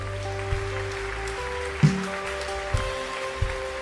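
An audience applauds the Lord in a steady, dense patter over sustained keyboard chords, with a few low thumps breaking through the clapping.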